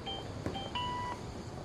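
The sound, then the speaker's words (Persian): Electronic keypad beeps from a PIN being entered on a card machine: two short, mid-pitched tones and then a longer third beep, clear above a low, steady background hum. “آبربانکه، رمزو میزنه.”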